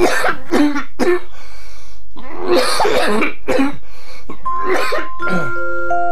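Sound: coughing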